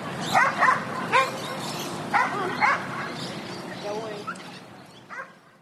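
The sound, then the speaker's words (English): Several sharp dog barks and yips ring out in quick bursts over a busy outdoor background at a dog park, with people talking and another bark trailing off near the end. “Right now, I'm at the dog park with my boyfriend's dog.”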